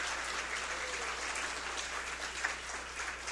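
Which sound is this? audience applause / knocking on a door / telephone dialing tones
audience applause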